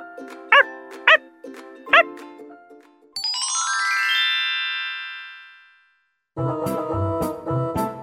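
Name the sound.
puppy barking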